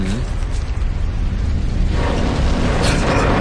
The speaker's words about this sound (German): Oh, diesmal ist es aber heftig. Ach, die Seismologen haben 2-3 Erdstöße vorhergesagt. Nichts über 5, kein großes Erdbeben. Das soll noch bis zum nächsten Advent so weitergehen. Naja, in dieser Stadt ist man das ja seit Jahrhunderten gewohnt.